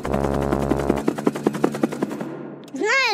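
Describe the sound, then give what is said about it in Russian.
Rapid, steady, loud chopping pulses like a helicopter rotor over a low hum that drops out after a second, ending with a bright warbling whistle. “Понимаешь, Компот, на вертолете тоже нелегко летать над городом.”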